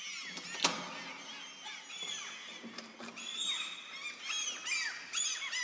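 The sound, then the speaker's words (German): A chorus of common gulls calling from many directions at a breeding colony of about 30 birds on the moss- and grass-covered flat roof of the Oberzollamt in HafenCity, Hamburg. Overlapping shrill squeals and mewing cries rise and fall continuously, some louder than others, with no one speaking. “Wir sehen hier jede Menge Sturmmöwen, viele Brüten.”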